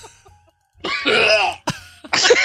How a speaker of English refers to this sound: It sounds like that guy who can't stop burping. That's what everybody compared it to today. You were so, like, you gagged really hard at some point.